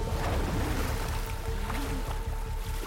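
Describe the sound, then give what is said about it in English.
Loud churning surf washes and seethes continuously against a rocky shoreline, a dense rushing roar with low rumbling swells and no voices. “As he thrashes towards land, the waves seethe at the shoreline.”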